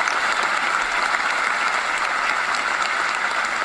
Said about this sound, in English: All right, that's enough applause, everybody.